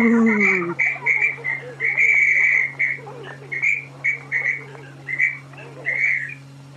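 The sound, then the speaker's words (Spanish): A school principal blows a whistle at a school in a rapid series of short, shrill blasts, about a dozen toots in an uneven rhythm, fairly loud over a steady low background hum. “Mire, tío, esa que está ahí con el silbato es la directora,”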